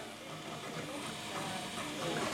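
A 3D printer runs with a steady mechanical whir and broad hiss, faint stepper-motor tones threading through, the noise swelling slightly louder toward the end.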